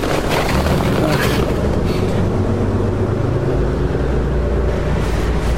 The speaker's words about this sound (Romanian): Mergi ca un merg, pierdem autobuzul. Care autobuz? Ăla care pleacă din stați. Aoleu!